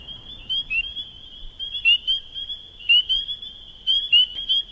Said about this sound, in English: And what you'll hear is, you hear the spring peepers and then the sound of a leopard frog, which almost sounds like a stomach growl, and how she reacts to that sound.